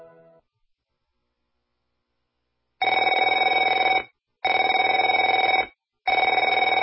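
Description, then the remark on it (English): A telephone bell rings three times, each ring a loud, steady electric trill lasting over a second, separated by brief pauses, with no voices. “Afraid to answer it?”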